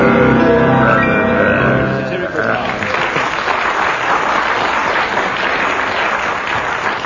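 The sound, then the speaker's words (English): An audience breaks into steady, loud applause for a performance, judged to be worth 6 marks, a dense patter of clapping that carries on to the end, preceded by a couple of seconds of voices or cheering. “Well, judging from that applause, we'll give you, what, 6 marks?”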